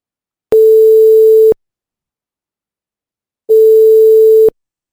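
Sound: telephone call ringing tone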